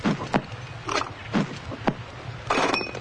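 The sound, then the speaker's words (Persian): Glass cups heated with the flame of burning alcohol-soaked cotton are pressed one after another onto a man's bare back for cupping, making a handful of soft taps and dull thumps at an irregular pace, ending in a longer rustling scrape. “شعله پنبه و آتیش رو توی لیوانها میگردونه و لیوانها رو پشت مردی میکوبه.”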